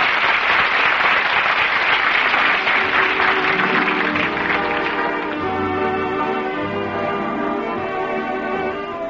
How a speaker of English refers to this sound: The audience is on its feet applauding. Miss Luddy and Mr. Talley are bowing in front of the footlights. The play's a hit. Did the first nighters like it? Listen to that applause.